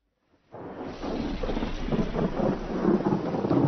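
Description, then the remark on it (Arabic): Steady rain pours down in a dense, hissing wash while a deep rumble of thunder rolls underneath, starting abruptly after a brief silence and holding loud throughout. “مع نزول المطر تطيب الأحوال ويحسن الهواء وتتجمل هذه المناظر عندما يكسو السماء الصفاء والبهاء والأرض إخضرارا ورواء فتبتهج النفوس وتتنفس الصدور وتستنير العيون وتخصب العقول.”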